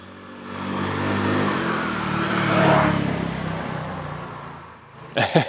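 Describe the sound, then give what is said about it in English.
A motor scooter's buzzing engine swells as it approaches, peaks, then fades away as it passes, with a short burst of another sound at the very end. “And these scooters keep going by.”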